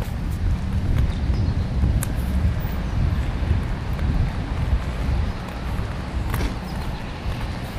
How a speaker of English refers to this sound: Yeah, you can kind of hear traffic's picking up, you know?